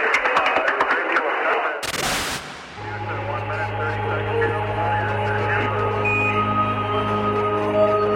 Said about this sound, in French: C'est fait. L'image est là, vous entendez la salle de presse de Houston qui applaudit.